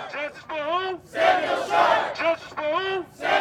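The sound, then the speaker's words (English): At a protest rally at Red Arrow Park in Milwaukee, organizers with megaphones lead protest chants: a single loud, amplified voice calls out a chant line, and hundreds of people roar it back in unison. The call and response alternate in a steady rhythm. “At Red Arrow Park late Thursday afternoon, organizers yelled in megaphones to lead protest chants. Hundreds of people chanted back in response.”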